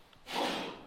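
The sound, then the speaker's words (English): A single sneeze: a quiet, breathy burst of hissing air that rises suddenly, holds for about half a second, then trails off. No one speaks. “Bless you.”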